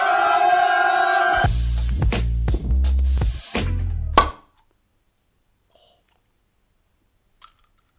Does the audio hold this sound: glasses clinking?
yes